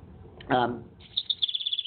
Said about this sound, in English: There's a bird.